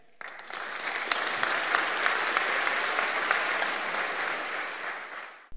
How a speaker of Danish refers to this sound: Ja, det velfortjente bifald var til Morten Bentsen, der er professor ved INSEAD